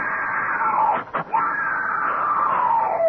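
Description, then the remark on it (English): A woman who has just woken in a harem screams loudly, a long high wail that breaks off for a moment, then resumes and holds for several more seconds. “She's awake. Don't let her scream.”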